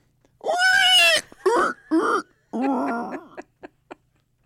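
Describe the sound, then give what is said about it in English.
A person does a loud pig-squeal impression on request: one long shrill squeal, two shorter squeals, a raspy drawn-out grunt, then a few quick snorts fading out. “Are you good at squealing like a pig?”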